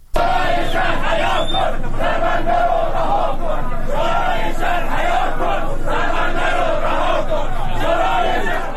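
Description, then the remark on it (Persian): A crowd of people protesting on a Thursday night in Bandar Imam, Iran, shouts together in loud, sustained waves, voices rising and falling in rhythmic bursts of chanting with no pause for the full length. “سایت عصر جنوب هم فیلمی از اعتراض پنجشنبه شب شماری از مردم بندر امام منتشر کرد.”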